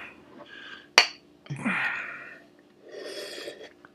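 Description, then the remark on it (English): A single bright, sharp clink of glasses touching in a toast, followed by breathy, snorting noises and a soft rushing sound, with no talking. “Cheers. Cheers”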